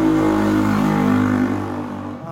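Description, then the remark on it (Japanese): A motorcycle engine roars by, its steady revving drone holding loud for over a second before starting to fade as it moves off. “今バイク通ったけどね、騒音恐怖症の人もいますよね。”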